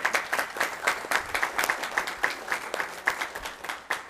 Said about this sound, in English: So I'd like to give our kitchen committee a round of applause.